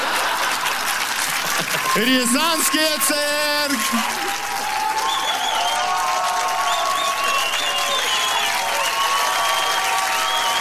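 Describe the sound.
An audience claps steadily and densely from start to finish. Loud sung or shouted voices rise over the applause for a couple of seconds, followed by faint sustained tones beneath the clapping.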